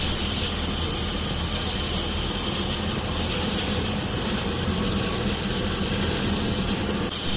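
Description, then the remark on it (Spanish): The medicalized helicopter of the La Rioja Health Service in flight, its engine and rotor producing a loud, steady roar that continues unbroken throughout, with no voices. “Nos subimos al Galeno, el helicóptero medicalizado del Servicio Riojano de Salud.”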